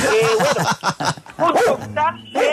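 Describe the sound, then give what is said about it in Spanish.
Dogs at a house bark repeatedly in the background of a radio program, sharp yelping bursts coming in quick clusters while people talk over it. “enseña a esos perros que tiene por allá en la casa que ladren antes de las 6 y después de las 11, para que no suene por allá al fondo del programa.”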